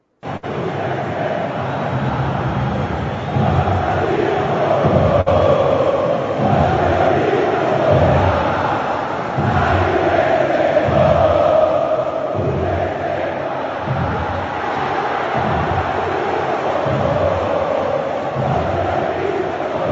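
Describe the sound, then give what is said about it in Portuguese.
A large crowd of Sociedade Esportiva Palmeiras supporters chants the club's new team song in unison at Allianz Parque, a dense, steady roar of many voices with a rhythmic, pulsing cadence that holds loud throughout. “Ouça aí e se ligue na letra da canção, a nova música da Sociedade Esportiva Palmeiras em canto da sua torcida.”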